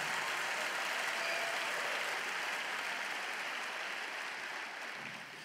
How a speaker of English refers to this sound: Does anybody believe that? Clap your hands and shout about it just a minute.